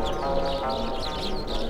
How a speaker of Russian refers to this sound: Воробьи ошалели от тепла, что творится. Вы только послушайте.